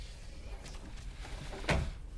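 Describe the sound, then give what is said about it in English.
A priest slides open a screen in the partition beside him with one short, scraping slide and a soft thud near the end, in otherwise hushed quiet with no talking. “He slides open a screen and tilts his head.”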